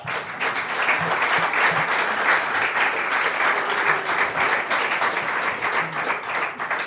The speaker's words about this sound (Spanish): Un aplauso, por favor.